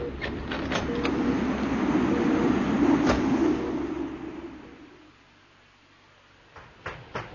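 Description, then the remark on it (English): A ship's door opens onto a walkway whose shielding broke down in a storm, with a few sharp clicks as a loud, rushing roar of wind pours in and holds for several seconds, then dies away, leaving quiet broken by a couple of faint knocks. “Now watch out for the blast when I open the door.”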